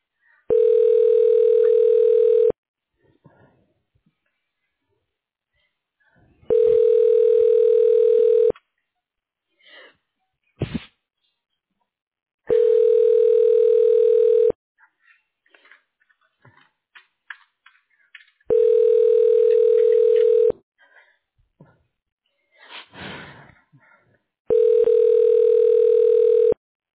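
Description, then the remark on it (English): A steady telephone tone sounds in five even bursts of about two seconds each, separated by pauses with faint clicks and brief rustling, as a call is transferred to someone's phone to leave a voicemail. “I can transfer you to her phone to leave her a voicemail.”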